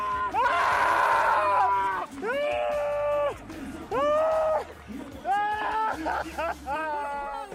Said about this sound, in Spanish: que gritaba y lloraba sobre el césped después de un auténtico infierno, 200 kilómetros luchando contra la lluvia, el barro, en los tramos adoquinados de esta Paris-Roubaix.